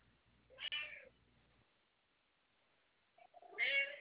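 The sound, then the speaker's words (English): A cat meows twice, a drawn-out cry near the start and another louder one at the end, with a low hum and quiet stretch between. “Why are you meowing?”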